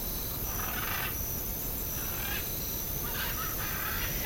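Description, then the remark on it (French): Harsh crow caws break out in three or four short, scattered bursts over a constant, loud rushing hiss of wind, as birds intermittently land on the top of a tall, thin antenna turning slightly in the wind, one of five very tall antennas among very tall trees. “Et ces oiseaux qui viennent par intermittence se poser sur la cime de l'antenne.”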